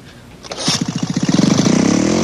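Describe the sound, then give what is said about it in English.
A small gas lawnmower engine sputters to life, its chugging pulses quickly speeding up into a loud, steady, rising roar. “Mighty Emperor, someone started the lawnmower!”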